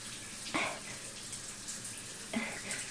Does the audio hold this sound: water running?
yes